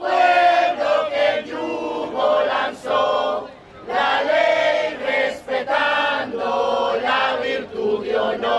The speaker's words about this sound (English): Police stood between the two groups, though there was no visible confrontation. From one side came chants opposing foreign intervention, from the other, cheers declaring freedom.